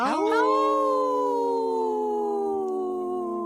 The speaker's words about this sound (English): Howl! Oh, good one